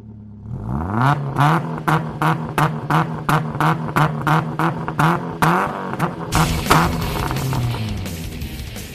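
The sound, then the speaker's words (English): Race car engines roar up and rev hard, a steady loud drone broken by a rapid series of sharp throttle blips, then a surging, gritty full-throttle howl. “But first, racers, start your engines.”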